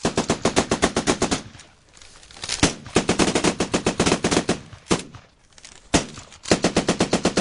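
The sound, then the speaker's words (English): Sustained bursts of rapid machine gun ground fire, ordered after helicopters pull back, loud sharp repeated reports broken by brief pauses, with a few heavier single blasts between the volleys and no talking. “The helicopters pull back, and Miller orders ground fire.”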